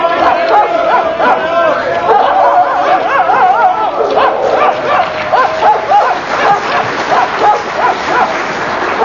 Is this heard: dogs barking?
yes